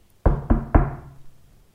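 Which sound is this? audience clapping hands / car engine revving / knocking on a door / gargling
knocking on a door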